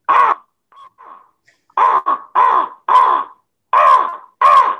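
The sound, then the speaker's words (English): A person who does animal impersonations imitates a crow with about six loud, harsh, nasal caws in an uneven series, plus a couple of soft, short calls in a brief pause near the start. “mostly an actor, sometimes a crow”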